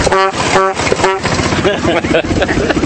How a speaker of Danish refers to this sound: Styringen, og der er sat motoren på, og der er blinklys og stoplys, og du kan høre, der er horn på her.